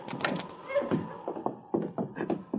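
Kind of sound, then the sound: household object, cabin door being opened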